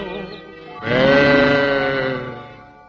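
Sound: lamb bleating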